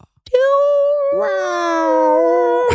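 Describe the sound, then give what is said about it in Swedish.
A drawn-out, nasal dolphin squeal from a film's music rings out loud, holding one pitch, then dipping slightly lower and sustaining for about two seconds before cutting off. “Och då menar jag på att finns det någon bättre musik än delfinmusiken?”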